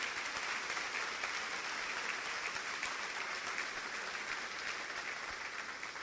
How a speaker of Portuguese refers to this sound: Vamos aplaudir nosso Deus maravilhoso por tudo que Ele tem feito por nós.